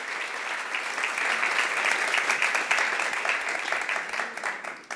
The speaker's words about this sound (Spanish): Quiero que se den un buen, fuerte aplauso por estar aquí con nosotros esta noche.